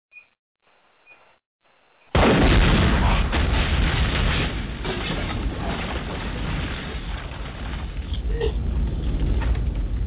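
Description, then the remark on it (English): After two seconds of near silence, a sudden loud explosion bursts in, followed by a heavy, rumbling roar that stays strong and sustained until the end. “With the explosion on your motherfuckers.”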